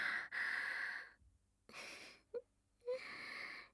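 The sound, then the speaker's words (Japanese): Heavy breathing after masturbation: three long, loud, airy breaths with short pauses between them, one punctuated by a brief voiced catch or gasp. “息遣い、すっごく荒くなってますね。”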